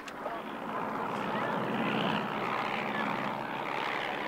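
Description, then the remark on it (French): A small yellow propeller plane drones steadily overhead as it flies over a beach, a continuous buzzing hum that swells slightly and holds at a fairly loud, even level throughout, with no one speaking. “Un petit avion jaune, les lemmes des trois pêcheurs, survole la plage, s'éloigne, revient.”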